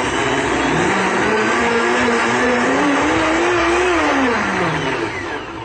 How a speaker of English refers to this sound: So I just add 1 or 2 teaspoons of raw almond butter. You could use cashew butter or tahini, anything you like. Make sure it's raw and unsalted, to 1 cup of water. Turn the blender on.